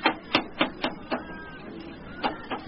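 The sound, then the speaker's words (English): Hammering by a carpenter working in his village stall: five sharp, ringing blows in a quick, uneven rhythm, a short pause, then two more strikes. No voices. “What's that hammering?”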